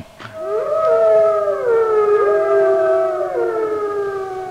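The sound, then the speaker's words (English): Wolves howl together in a loud chorus, with long sustained mournful notes that rise, hold and slide over one another for several seconds, the howl calling the other wolves together to go on a hunt. No one speaks. “Hey, whenever it's time to go on a hunt, I'll howl, and this calls the other wolves to my side, and they'll join me in a joyful song.”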